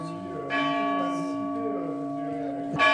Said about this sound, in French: La chapelle Mouret, donc de Terrasson, a retrouvé sa cloche hier. Elle sonne comme avant à 7h du matin, à midi et à 19h.